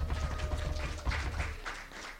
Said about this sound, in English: all of the elected officers for the next year or two, you need to applaud yourselves for your commitment. Yes. And do that now. Applaud yourselves.